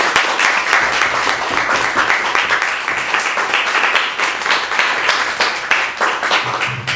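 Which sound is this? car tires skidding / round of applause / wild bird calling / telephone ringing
round of applause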